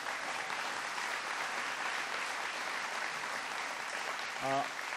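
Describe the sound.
Steady crowd applause for the mayor of Piasta, at an event hosted by Northeast Iowa Community College, fills the whole stretch, a dense continuous patter of many hands clapping at moderate loudness, with a brief voice cutting in near the end.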